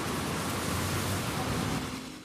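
nature, flowing river water

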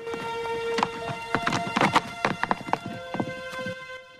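animal, horse galloping away

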